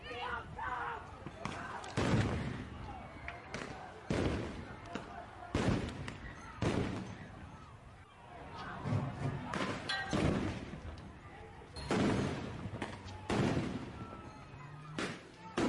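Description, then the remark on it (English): Tear gas grenades being fired by police at a protest in Minnesota: about eight loud, sharp bangs at irregular intervals, each with a brief rumbling tail, over a steady background of crowd noise and indistinct voices. “Cops responded with tear gas grenades.”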